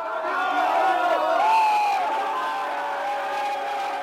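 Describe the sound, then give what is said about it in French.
A crowd of at least 200 to 300 fans cheers loudly and continuously outside a hotel in hot weather as the France national team leaves to board its bus around 5:30 pm. A dense roar of many voices with rising whoops and shouts breaking through holds steady for the whole stretch. “Et pourtant, ils étaient là jusqu'au bout, et quand l'équipe de France est arrivée sur les coups de 17h30, quand l'équipe de France est sortie de l'hôtel pour monter dans le bus, écouter ce vacarme.”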